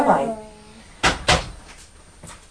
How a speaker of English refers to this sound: Bless you. Oh, bless you.